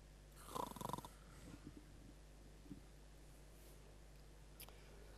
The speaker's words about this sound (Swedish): Och så går han tillbaka till den gruppen av tre. Och så snarkar de och sover så mycket som de bara orkar liksom.